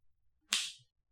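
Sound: whip lashing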